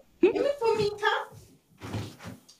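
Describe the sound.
A door is opened to let a dog in, giving a couple of soft clunks and a muffled thud, just after a short, high, wavering voiced sound.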